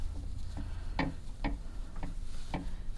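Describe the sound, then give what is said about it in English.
Clothes hangers rattle on a closet rack as someone opens the closet door to grab a jacket, giving a handful of sharp, irregular clicks and taps over a low steady background hum, with no talking. “You're hearing clothes racks.”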